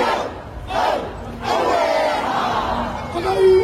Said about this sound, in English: The crowds kept coming. Throughout the day, spontaneous hakas broke out. Maori war cries rallying supporters to do battle with a government they say is undermining them.